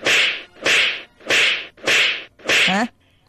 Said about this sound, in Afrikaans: Hulle word geklap, hoor. Nou, jy sal bly wees om te hoor dat hierdie is net standbeelde.